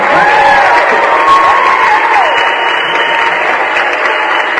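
Steady, dense applause from a crowd, loud and continuous throughout, with a few faint cheers and whistle-like tones riding on top of the clapping.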